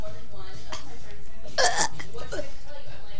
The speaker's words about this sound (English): Burping action over.